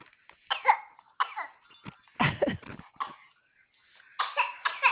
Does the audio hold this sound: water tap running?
no